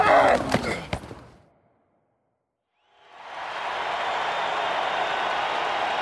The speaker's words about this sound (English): A crowd of more than 109,000 people scream inside the Big House, the University of Michigan's historic football stadium.